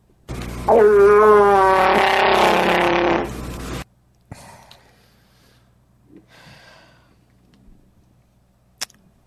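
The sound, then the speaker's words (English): A walrus yawning as it pulls its head back: a loud, drawn-out groaning bellow lasting about three seconds, rough and rising slightly in pitch, followed by faint snuffling breaths and a short click. “It's an aquatic creature with large tusks, like pulling its head back and yawning, like okay.”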